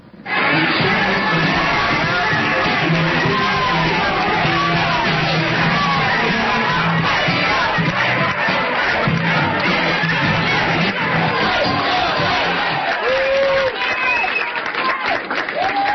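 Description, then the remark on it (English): A large crowd at a rally for Councilman Lumumba in Jackson cheers and shouts continuously, loud, with overlapping voices and yells forming a dense roar that holds steady throughout, occasional higher shouts rising above it. “He then urged the crowd to prepare to join him in restoring Jackson's infrastructure.”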